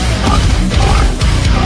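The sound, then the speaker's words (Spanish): A pig oinks and grunts in a quick, continuous run of loud snorts lasting under two seconds, with no talking. “El cerdo hace.”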